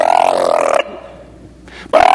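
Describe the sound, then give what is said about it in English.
A voice makes a loud, buzzing, growly engine noise that cuts out, leaves a short lull with a brief rasp, then roars back, imitating a sputtering car engine that starts, goes and stops while running on only 4 of its 8 cylinders. “I can't make a car very good. But they'll make a lot of noise.”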